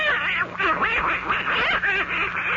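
A voice imitating a duck quacks in rapid, continuous nasal bursts, loud, like excited duck chatter running for a few seconds without pause.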